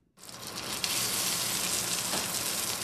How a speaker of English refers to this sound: We are miles from the financial district, inside the busy kitchen of New York catering company Sonier & Castle. That sizzle is the sound of swine near the end of the line. This is pork belly that we had cooked in duck fat earlier, and now we're